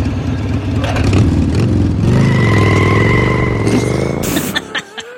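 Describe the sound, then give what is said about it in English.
A motorcycle engine revs loudly, its droning pitch rising and falling over a few seconds before cutting off abruptly into brief clatters. “My motorcycle says no.”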